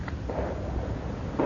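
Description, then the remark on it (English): Fireworks rumble in a low, continuous boom, with muffled blasts blending together and a slightly stronger burst near the end. No one speaks. “See, the fireworks are going off.”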